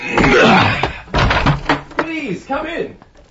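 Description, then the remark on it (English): A door is forced open, with heavy rattling thumps and scraping bursts, followed by strained, wordless vocal grunts and murmurs as the struggle eases. “As he was fast making jam of the fruit while wrestling with the door.”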